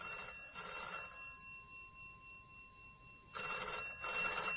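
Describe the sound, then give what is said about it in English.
A telephone in an office section rings in two bursts of rapid double trills, separated by a pause, loud with a faint low hum underneath and no one speaking. “Suddenly, a phone rang.”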